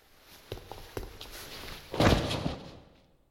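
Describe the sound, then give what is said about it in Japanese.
Quick footsteps thud across the floor, a few spaced steps followed by a louder, heavier burst of hurried strides that fades out: someone who had been eavesdropping running off. No one speaks. “盗み聞きは良くないな。足音でバレバレだよ。”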